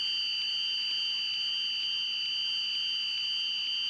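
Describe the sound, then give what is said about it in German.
A continuous, piercing high-pitched whistle tone rings steadily without a break, layered with a fainter shrill overtone, simulating a patient's tinnitus heard day and night as a very high-frequency whistle; no voices or other sounds accompany it. “Also ich habe einen sehr hochfrequenten Pfeifton, Trillerpfeife, ununterbrochen Tag und Nacht.”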